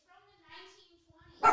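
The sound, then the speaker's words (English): A dog whines in a drawn-out, wavering tone, then lets out a single loud, sharp bark at the very end. “How are you dogs doing?”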